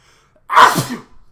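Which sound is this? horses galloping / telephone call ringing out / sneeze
sneeze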